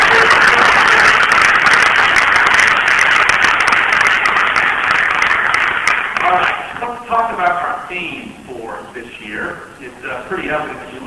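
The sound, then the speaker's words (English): A crowd applauds all of the partners with dense, steady clapping for about six seconds, then the applause thins out as someone starts speaking over the last scattered claps. “So let's give a round of applause for all of our partners.”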